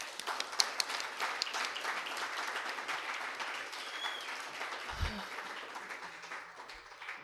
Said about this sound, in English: Happy birthday, and let's give her a round of applause.